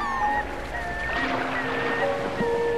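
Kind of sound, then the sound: nature, ocean surf waves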